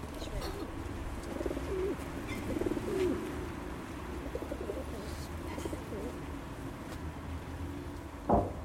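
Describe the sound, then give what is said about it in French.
Pigeons coo softly and repeatedly in low, warbling murmurs over a steady outdoor background hum, with a brief louder flutter near the end. “Et le meilleur pour la fin, il y a des pigeons.”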